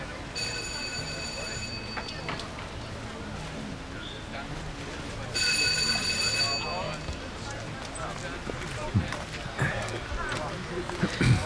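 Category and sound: household object, doorbell ringing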